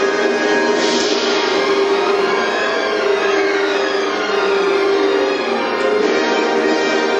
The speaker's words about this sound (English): Now after this, the longest sequence in Western musical history, there's going to be a statement of the Troparion, the hymn of the Holy Cross. He wrote this on a dare. There's the hymn of the Holy Cross with church bells.